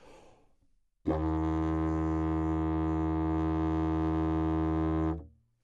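After a brief breathy intake, a didgeridoo made from a tree branch plays a single low, steady buzzing drone made by buzzing the lips, with a rich, reedy tone for about four seconds, holding even volume before cutting off, with no one talking.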